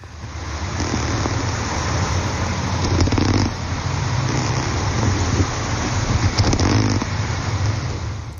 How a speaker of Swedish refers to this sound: Och nu fick vi höra snultra.